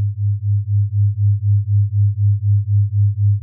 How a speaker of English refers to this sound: I will play a frequency in your left ear and a slightly different frequency in your right. These are flat tones, but when heard together, your brain creates a rhythmic beat.